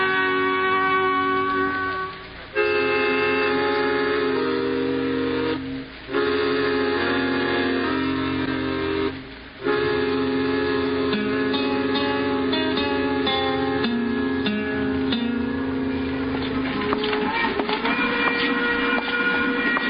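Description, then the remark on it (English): A train rolls steadily along the tracks, a loud, continuous rumble with a droning tone, broken by a few brief dips before the clatter picks right back up. “If Al Clovis ain't in there, he ain't on this train.”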